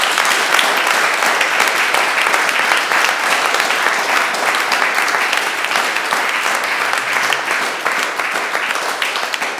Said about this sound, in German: Und danke. Vielleicht klatschen wir einfach mal eben kurz.